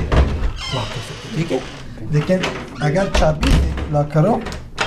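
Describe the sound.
A few sharp metallic clicks and dull thunks as the front door of a third-floor apartment is unlocked and handled. A caseworker is showing two refugee men how to unlock the door to their new home, while people talk throughout.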